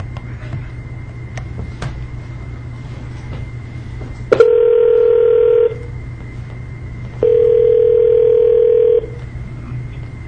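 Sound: telephone dial tone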